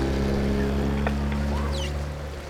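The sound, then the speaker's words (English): A small 20-horsepower rental outboard motorboat carrying a party of three drones steadily on the water at Catalina Island for the whole stretch, a constant low hum, with a few faint bird chirps above it. “Party of three coming down for a 20 horsepower boat riding.”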